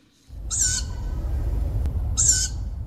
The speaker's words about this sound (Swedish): Så jag stannade ju min cykel och tittade runt lite, och så såg jag i halvmörkret hur det satt en liten uggla på en gren och ropade.